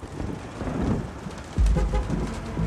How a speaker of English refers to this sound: The drizzle continues to fall over Buenos Aires, accentuating the gray of autumn, which clings to the streets, the cars, the people.